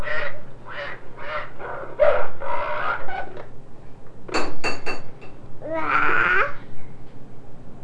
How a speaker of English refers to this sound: Okay, let's hear the duck. Pull way out. Good. Here is a duck.